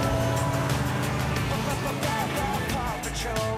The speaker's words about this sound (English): Time for your victory lap, Marshall. Okay. Paw Patrol Pit Crew, let's go. Let's do it. Marshall hops in the Whoosh's red sports car and drives the track with the Paw Patrol.